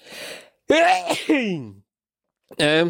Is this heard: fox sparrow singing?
no